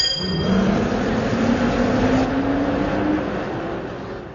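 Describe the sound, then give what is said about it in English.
A large bus bound for Slaughter Hill drones steadily, its low engine hum rising gradually in pitch as the vehicle accelerates, with a broad rumble of road noise and no voices. “Just get on this bus.”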